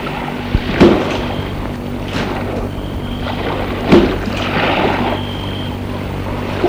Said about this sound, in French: Il a arrêté sa voiture devant une maison entourée de dunes. On ne voit rien, mais l'on entend la mer.